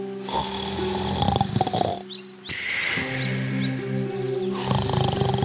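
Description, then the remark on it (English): A wolf asleep, lying under a tree in a yard, snores loudly: a couple of long, rumbling, growly breaths separated by a short pause, with faint birds chirping in the background. “The wolf lay under a tree on the yard and started to sleep, snoring.”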